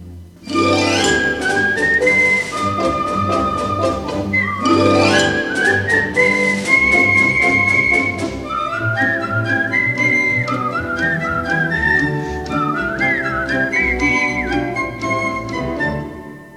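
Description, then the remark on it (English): Someone whistles a bright, bouncy melody over full orchestral accompaniment, the clear tune sitting up front and rising and falling in short phrases for several seconds. “And whistling seems to brighten up their day. And that's what simple folk do, so they say. They just whistle.”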